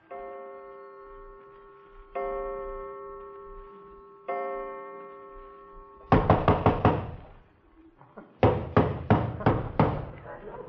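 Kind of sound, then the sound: impact, pounding on a door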